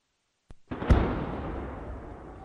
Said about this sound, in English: Despite the sound of explosions thundering in Ukraine's southeastern Zaporizhia region, agriculture machines keep driving towards the fields belonging to farmers.